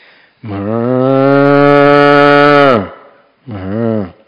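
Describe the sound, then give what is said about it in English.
A person's voice imitates a cow mooing: one long, loud, steady low moo lasting about two seconds, then a shorter second moo after a brief pause. “How do bice sound? I can do a cow.”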